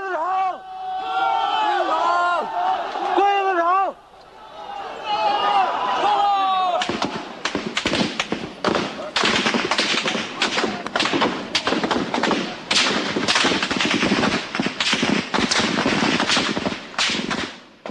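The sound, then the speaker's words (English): A crowd of student protesters in Tiananmen Square on June 4, 1989 taunts soldiers with shouting, raised, jeering voices, giving way after a few seconds to rapid, loud bursts of gunfire as the soldiers open fire, sharp cracks repeating densely and irregularly for the rest of the scene. “Soldiers standing around student protesters in Tiananmen Square awaiting orders. The crowd taunts them. They open fire.”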